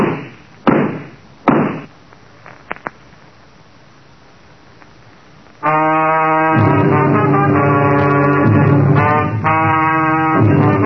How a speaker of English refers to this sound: I ducked fast. Then I realized that she wasn't shooting at me. She was shooting through the door.